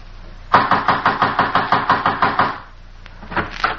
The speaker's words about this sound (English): You're trying to break down the door?